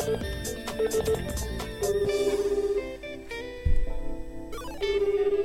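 A phone ringback plays over the line as a continuous synthesized melody, steady and moderately loud, with no one talking over it, while calling a shop manager who does not answer.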